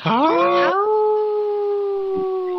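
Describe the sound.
A single long, wolf-like howl from a human voice on the radio show Native Roots Radio: it starts with a rough, rising wail, then settles into a steady, sustained tone held loudly for a couple of seconds.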